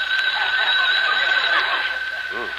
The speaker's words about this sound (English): Correction. The phone rang.